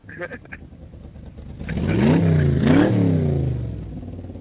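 A small moped engine revs hard as a woman takes off on it, its whine climbing in two quick surges before settling, after a few brief clicks at the start.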